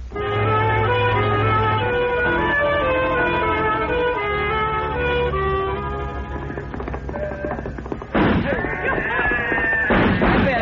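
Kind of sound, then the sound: sound effect, gunshots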